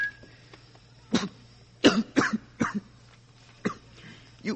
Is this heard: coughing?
yes